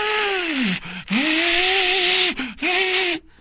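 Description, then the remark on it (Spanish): A vacuum cleaner in a home, run at night between 11:30 pm and 12:45, whines in three bursts with short breaks between them. Its steady high motor tone and loud airy roar dip in pitch at the end of each run before cutting out. “mi señora agarró la aspiradora en la noche.”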